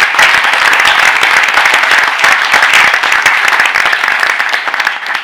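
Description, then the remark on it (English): A steady burst of audience applause at a University of Illinois Board of Trustees meeting, thanking a departing staff member for his service. Dense overlapping claps stay loud throughout and begin to thin slightly near the end, with no one speaking over it. “let's give him a round of applause and thank him for his service over here.”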